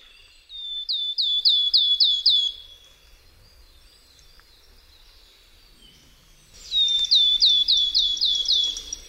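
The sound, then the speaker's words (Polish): Wood warbler song: two separate bursts, each a quick run of about six high, bright, downward-hooked notes, with a quiet pause between them and no voices. “Jednak głos tej ostatniej jest melancholijny, a sylaby wydawane są pojedynczo w długich, regularnych odstępach. Posłuchajmy zatem świstunki.”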